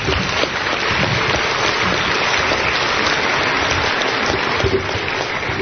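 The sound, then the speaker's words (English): A crowd breaks into steady, dense applause for the people at the National Office, a continuous wash of many hands clapping at an even loudness for several seconds with no voices standing out. “Let's give them a hand.”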